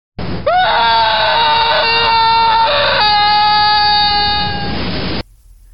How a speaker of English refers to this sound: But what's that? Coming over the hill? Is it a monster? Can I hear distant screaming?